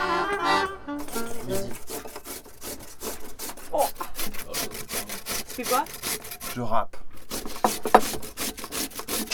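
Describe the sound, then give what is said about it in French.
Rapid, steady rasping strokes of an onion being grated, a continuous scratchy back-and-forth rhythm that runs the whole time, with a few faint voices briefly underneath. “Tu râpes une oignonnade.”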